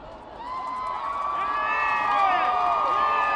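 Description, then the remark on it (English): A large crowd on 125th Street in Harlem cheers and shouts in a sustained roar as a Jumbotron shows President Obama emerging for the first time, many high voices whooping and calling out together, the noise swelling louder over a few seconds. “That was the sound from the crowd on 125th Street when the Jumbotron showed President Obama emerging for the first time.”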